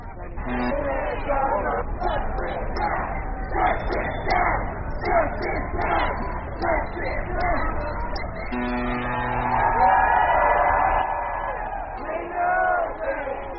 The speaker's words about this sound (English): You can hear the sounds of horns that are honking in support of the massive number of demonstrators that are heading from Brooklyn towards the entrance of the Manhattan Bridge now and appear committed to walking over the Manhattan Bridge.